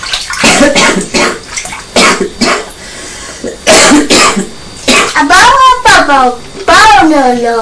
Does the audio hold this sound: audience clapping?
no